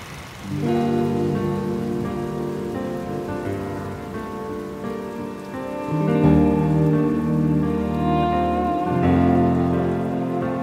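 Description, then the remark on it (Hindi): Steady rain falls throughout, a constant wash of drops heard beneath sustained, mellow musical tones that shift in pitch partway through. No one speaks. “बारिशें यूं अचानक हुई तो लगा तुम शहर में हो, रात भर फिर वो जब ना रुकी तो लगा तुम शहर में हो।”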